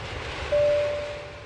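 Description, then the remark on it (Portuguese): A loud, steady jet engine roar as an airplane lands, with a high whining tone rising out of the rumble partway through before the noise slowly eases off. “Agora eu, na minha função de capitão deste voo, vou aterrissar o avião e chamar a torre de controle para trazer uma dica cultural do seu final de semana.”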